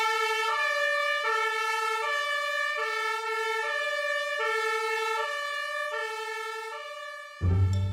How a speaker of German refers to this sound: Und jetzt drücke ich mit dem Fuß auf den roten Knopf und. Wenn man das drückt, dann geht die Sirene an. Wenn man es wieder drückt, dann braucht es ein bisschen Zeit und dann geht es wieder aus.